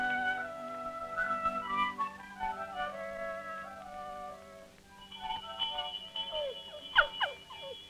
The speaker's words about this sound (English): Do you hear that sound, dog? That's one of the best sounds there is. A farm dinner bell.